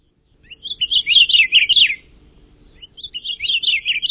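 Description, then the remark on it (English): An Akiapolaau, a Hawaiian honeycreeper, sings two bright, warbling phrases separated by a brief pause. The song is clear and fairly loud, with no voices and only faint low background noise. “Or perhaps the seeds hitched a ride on the ancestors of this Akeapola owl we're hearing, caught in a storm and blown to the Hawaiian Islands.”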